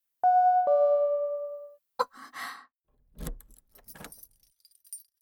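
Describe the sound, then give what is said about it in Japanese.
A two-note electronic chime rings, then a short pause before keys jangle and clink in several quick bursts, with faint metallic rattling as a man works a duplicate key in the lock of a house door. “いつの間にかあの男は合鍵を作った。いつもこの時間にやってくる。”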